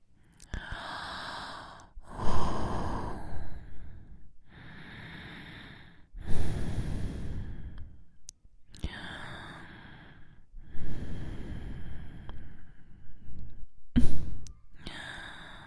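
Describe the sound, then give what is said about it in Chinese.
A woman's heavy, breathy panting, a run of long, airy exhales and inhales in an uneven rhythm, some louder and harsher than others, with no words spoken. “这股心爱的余晖通过我的喘息出的哈气，传给弟弟一些吧。”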